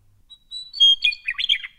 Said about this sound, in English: Weiwiktsale, which is a meadowlark.